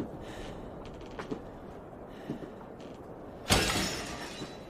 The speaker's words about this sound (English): He looks up and moves in the direction of the smashing sound.